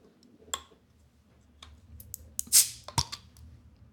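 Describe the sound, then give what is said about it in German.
A green bottle of Obru strong beer (Starköl) is opened: a few soft clicks, then a short, bright hiss of escaping gas and a sharp tick just after. The fizz is gentle and quiet, with no voices. “Das ist nicht so aufdringlich, das Geräusch.”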